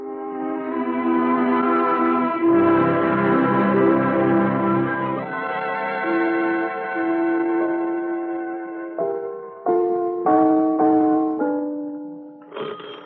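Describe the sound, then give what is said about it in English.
A musical doorbell plays a long chiming melody: sustained, ringing tones blend together, followed by several distinct struck chimes that each decay. It is loud, with no voices. “the doorbell.”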